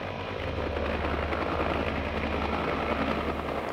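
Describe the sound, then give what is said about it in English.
A helicopter taking off roars loudly and steadily, its rotor churning out a dense, continuous thrum with a faint rhythmic chop throughout. “It was as though their fathers, brothers, and sons had ceased to exist when they ran into the roaring helicopter.”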